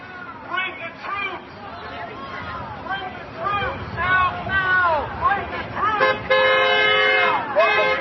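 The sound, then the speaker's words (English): A passing car sounds a long, steady horn blast in support near the end, cutting loudly over a lively crowd of protesters at a sit-in at First Street and Independence Avenue in Washington, D.C., whose shouts and cheering voices fill the scene throughout. “There's a supportive motorist driving by.”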